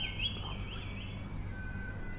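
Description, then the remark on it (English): Australian birds calling and warbling in thin, wavering tones, fairly faint, layered over a steady low rumble with no voices. “The sound you're listening to is Australian birdsong.”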